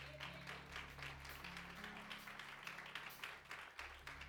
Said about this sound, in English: Come on, clap your hands for the word of God.